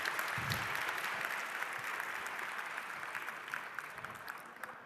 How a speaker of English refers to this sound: And give him a big round of applause, and the stage is yours.